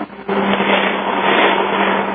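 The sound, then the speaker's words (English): A steady, loud mechanical roar like a vacuum cleaner running alongside a helicopter, a dense whooshing whir over a constant low hum that swells just after the start and holds with no talking. “Also sounds like a vacuum cleaner and a helicopter are taking off in the background.”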